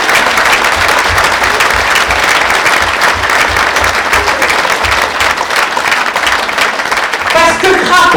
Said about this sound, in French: toute ton équipe de ton conseil municipal, tous les élus et tout le conseil municipal des jeunes prennent cet instant pour saluer notre connaissance et t'applaudir avec moult remerciements.